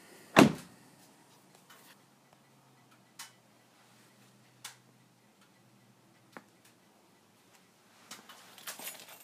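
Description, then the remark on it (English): A house door bangs shut with a loud thud as someone arrives home, followed by a few sparse clicks and latch-like taps, then some shuffling rattle near the end. No one speaks. “Door.”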